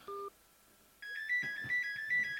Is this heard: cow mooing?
no